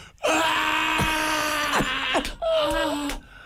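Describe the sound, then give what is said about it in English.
A voice imitates a long, shrill, blood-curdling scream, loud, wavering in pitch and breaking briefly before carrying on for about three seconds with no other talk. “And all of a sudden, you just hear this blood-curdling scream.”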